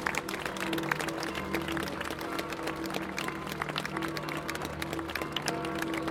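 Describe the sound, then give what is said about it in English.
A crowd applauds continuously as a helicopter takes off in Rome, a dense, steady patter of many hands clapping throughout, with a low, constant mechanical drone humming underneath. “And again, the crowd applauds.”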